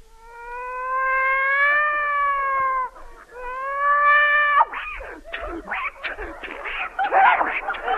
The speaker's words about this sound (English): A cat fight.